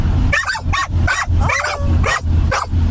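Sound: dogs barking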